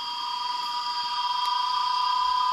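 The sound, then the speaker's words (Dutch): Crickets chirp on a scorched, empty plain of burned ground and fire-felled trees in the Amazon, a dense, unbroken chorus, a shrill high-pitched trill that holds steady with a faint pulsing shimmer throughout, no voices present. “En op die schroeiende lege vlakte vestigen zich de krekels.”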